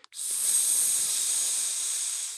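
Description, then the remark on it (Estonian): A single long, steady hiss, like a snake's, held for about two seconds after a brief click, coming from the hallway of a dim apartment. It is sharp and airy, with no talking, and sounds like a voice imitating the hiss. “Esikust kuuldus sisinat.”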